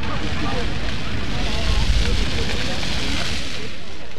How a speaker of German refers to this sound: Fünf bis sechs Meter hoch oder noch höher lodern die Feuer aus Reisig und Holzwolle.